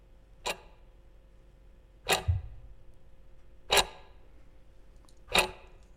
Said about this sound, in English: Okay. Listen to the clock.